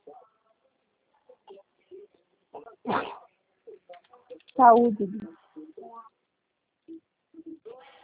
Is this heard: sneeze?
yes